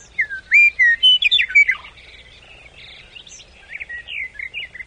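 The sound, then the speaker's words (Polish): Wild birds at the Ożarów ponds chirp and whistle in quick, high-pitched phrases, with a burst of bright trills early on, then softer, scattered calls over a low background hum. No one speaks. “Mamy tutaj jeszcze innych gości, zapewne Państwo słyszą w tle. Gdybym była ornitologiem, to pewnie bym rozpoznała głos”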